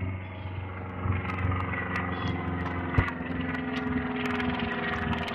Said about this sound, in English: It's an interesting plane.